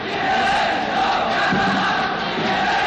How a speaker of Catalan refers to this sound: Crits d'allibereu els nostres camarades, i torna a intervenir el locutor, que reconeix que és una violència desconeguda a París des de fa molt de temps.